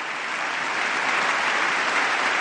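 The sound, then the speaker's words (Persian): Steady, dense applause from the audience in the US Congress during President Obama's annual address: a continuous wash of many hands clapping at an even loudness throughout, with no voices standing out. “و آنچه که می‌شنوید صدای کف زدن‌های حضار در کنگره آمریکا در سخنرانی سالانه آقای اوباما در کنگره است.”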